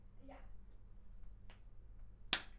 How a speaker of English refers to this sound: Okay, I'll clap.